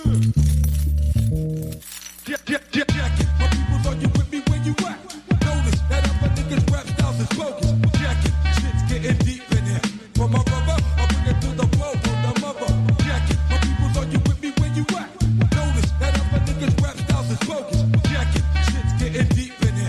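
A Greek hip hop track from Chania, Crete, from an album released in 2014, plays throughout, with a steady, punchy beat, heavy booming bass and a dense layered backing that stays loud and continuous, briefly thinning out near the start.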